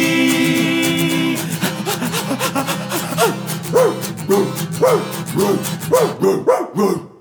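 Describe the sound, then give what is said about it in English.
A small dog yaps in a rapid series of short, high barks, repeating steadily for several seconds after a brief sustained tone at the start. “cause it ain't much fun for a little dog when I'm wrapped around your bike. Yapping, tugging, pulling, panting, waiting patiently.”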